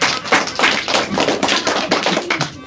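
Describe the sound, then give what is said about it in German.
An audience at a hand-puppet show applauds steadily for a few seconds as the characters are introduced, a dense, even patter of many hands clapping at a fairly loud, constant level with no voices over it. “Applaus!”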